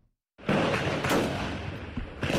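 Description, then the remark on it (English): Gunfire erupts suddenly after a moment of silence, a dense, loud barrage of cracks and rumble that keeps going, with sharper reports standing out near the middle and end: a lone gunman exchanging fire with security forces at a police station in Kapenguria, western Kenya. “Residents of Kapenguria, a town in western Kenya, woke up to the sound of gunfire Thursday as an alleged terror suspect killed several officers in a police station.”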